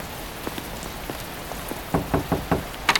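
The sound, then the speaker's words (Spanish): Heavy rain falls in a steady hiss outside the Casa del Mate, with drops pattering on a surface and a few louder, rhythmic splashes toward the end. No one speaks. “¡Rápido, que está lloviendo más fuerte!”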